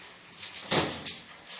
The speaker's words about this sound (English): Hey, close the door. Close it.